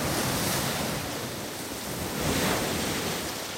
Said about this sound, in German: Das Meer schwappt hin und her. Das nennt man Ebbe und Flut, die Gezeiten. Und das liegt daran, dass der Mond mit seiner Schwerkraft am Meer zerrt, mal von der einen und mal von der anderen Seite.